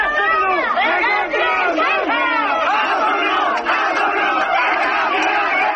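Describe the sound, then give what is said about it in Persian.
A large crowd at the Monday burial of Kurdish political prisoner Peyman Golbani in Mahabad, Iran, chants slogans calling him a hero and martyr of Kurdistan, many voices rising and falling together loudly in unison in a steady rhythmic cadence that continues without pause throughout. “جمعیتی که شعار می‌دادند که کاک پیمان قهرمان است، شهید کردستان است.”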